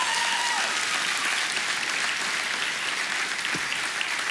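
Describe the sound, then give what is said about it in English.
A crowd applauds steadily, a dense wash of many hands clapping at once that holds at an even, fairly loud level with no voices on top. “Come on, if you believe it, we could clap louder than that.”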